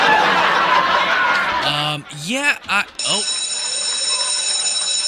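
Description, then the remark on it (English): A school bell rings loudly and continuously, a harsh clattering ring that gives way to a steady, shrill electronic tone. A brief burst of chuckling voices cuts in partway through. “Look at that. I was saved by the bell.”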